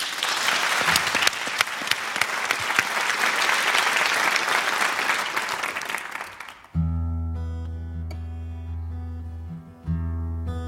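Loud audience applause, a dense, steady clatter of many hands, runs for several seconds before it stops abruptly and strummed guitar music takes over.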